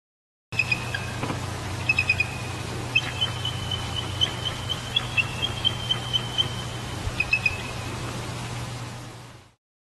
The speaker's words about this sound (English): You may know, but that very collection of sounds were all made by the bald eagle. The last clip I added, the fourth one, that very high-pitched, eerie, strange call was a call of a female eagle. She's beckoning to her mate to mate.